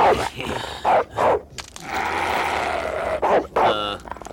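A dog growls and snarls, breaking into several short, harsh bursts separated by a longer rumbling stretch, loud and aggressive over a noisy background.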